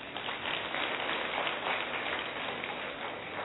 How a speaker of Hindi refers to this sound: Very good very good, इनके लिए भी ताली बजाएं।